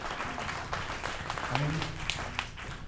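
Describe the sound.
A church audience applauds in praise during a sermon, a steady, dense patter of clapping with scattered sharper claps, while voices murmur and call out underneath throughout.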